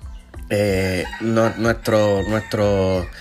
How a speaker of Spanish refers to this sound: Ahí están los vecinos también dando su opinión, los gallos que tanto a la gente le gustan.